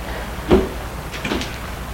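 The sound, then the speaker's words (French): A car door opens and shuts as a woman gets out of her car stopped in a street, one solid thump followed by a few lighter clicks and rattles, heard alone against a low background hum. “Elle sort de voiture”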